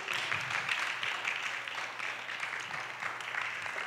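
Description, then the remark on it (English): A church audience applauds steadily to praise God, many hands clapping together in a dense, continuous patter that stays fairly even for the whole stretch, with no voices standing out. “Someone clap your hands.”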